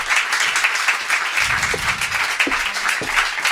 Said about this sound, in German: Ich möchte begrüßen zum einen Hovin Alsindi. Hovin, einen kleinen, großen Applaus für Hovin.